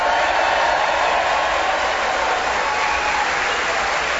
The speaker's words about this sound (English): And as our listeners can hear, we have before us a passionate, hyped-up Welsh audience to cheer us on our way as we begin the show this week with Clement Freud.